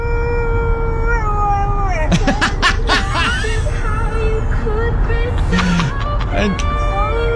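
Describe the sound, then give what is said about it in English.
A female golden retriever lying on a car's back seat howls along to the same verse of a song in long, wavering, drawn-out notes over the music playing in the background. The howling is fairly loud, with a few rougher, breathy bursts in the middle. “Her dog's a golden retriever. The dog howls to the same verse in … every single time it plays.”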